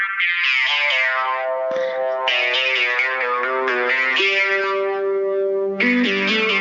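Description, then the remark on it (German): An old psychedelic intro jingle, played by mistake instead of the current one: bright, harmonically rich tones stepping through sustained notes, drenched in effects like distortion and chorus, loud and steady with no one talking. “Also, das ist, glaube ich, nicht das Richtige. Das ist das alte.”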